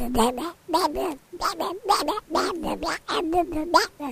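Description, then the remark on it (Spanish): A voice mimics a duck while repeating a phone number, quacking out a rapid string of nasal, buzzy syllables in short bursts with brief pauses, fairly loud, like garbled duck-speak. “Claro, se te dijo lo dijo en lenguaje pato.”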